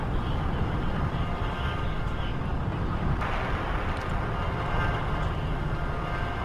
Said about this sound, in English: So, mind the helicopters.